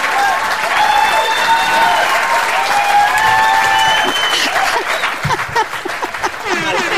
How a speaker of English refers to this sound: Where's the applause sound effect? Wait.